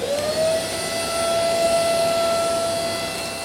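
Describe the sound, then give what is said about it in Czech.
A vacuum cleaner sucks up soot that fell down after a chimney was cleaned, running loudly and steadily, its motor whine climbing in pitch at the start and then holding a constant tone over a broad rushing roar, with no voices. “Máme tady k dispozici vysavač, kterým to můžeme vysát, protože tam sazí hodně, tím trošku eliminujeme nepořádek, který tu po nás zbyde.”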